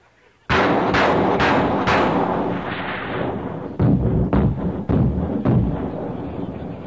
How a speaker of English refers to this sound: Somebody else opens up with an anti-aircraft cannon.